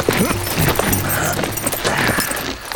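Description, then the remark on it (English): Horses' hooves clip-clop at a steady walking pace, moderately loud, as two riders ride up to the rear of a dark small frame house on Chadbourne Street, with a dense layer of background noise around the irregular hoof beats. “The house was dark as Johnny and Speck rode up to the rear of it.”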